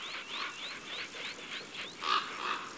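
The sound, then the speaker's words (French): A common raven, an all-black bird with a wingspan over 1.2 m, beats its large wings in flight, a steady series of about eight airy whooshing swishes, evenly spaced, with the last couple louder. No voices. “Ici, on entend le bruit de ses grandes ailes.”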